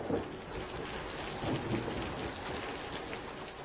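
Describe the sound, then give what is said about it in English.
Steady, hissing rain pours down continuously in a Florida thunderstorm, a dense wash of drops with a faint low rumble underneath, even throughout with no voices. “Land surface heats the moist air to form convective storm systems that move across the peninsula almost daily.”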